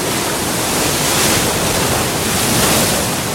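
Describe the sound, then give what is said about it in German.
Steady roar of Indian Ocean surf breaking on the beach at Port Alfred on the Eastern Cape of South Africa, a dense continuous wash of waves with gentle swells in loudness, loud, no voices. “Die Brandung des Indischen Ozeans. Wellen brechen sich am Strand von Port Alfred am östlichen Kap von Südafrika.”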